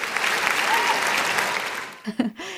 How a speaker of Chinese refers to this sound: 哇，也此处应该有掌声。